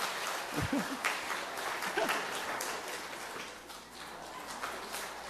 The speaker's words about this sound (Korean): 큰 박수로 환영해 주십시오.